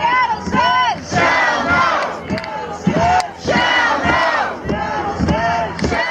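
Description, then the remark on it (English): A large crowd of kayak protesters on the water of Elliott Bay off Seattle, protesting Shell's plan to drill for oil in the Arctic, chants loudly in unison on a Saturday, shouting a short phrase in a steady, repeating rhythm of strong bursts with brief gaps between them. “Hundreds of kayakers have been gathering in Seattle during the past couple of weeks to protest Shell's plan to drill for oil in the Arctic.”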